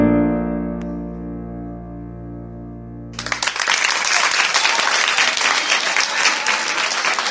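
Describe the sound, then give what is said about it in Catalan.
A sustained, sung held musical tone with steady harmonics fades out as a singer finishes a live song on a TV quiz show, then loud audience applause erupts suddenly around three seconds in and continues densely to the end. “Aquest fort aplaudiment és per moltes tu.”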